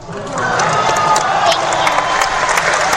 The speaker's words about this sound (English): Is there anything that you would like to say to all the people that are applauding you right now?